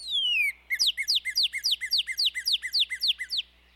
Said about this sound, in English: and some female birds sing too. For example, male and female northern cardinals produce a song with clear whistles.